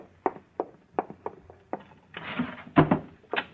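A wooden drawer of an old bureau in a closet is worked out with a run of knocks and rattles, a pillow is stuffed inside, then a louder scrape and a solid thump as the drawer slides shut. No voices.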